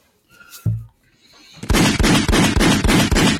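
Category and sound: sound effect, gunshots sound effect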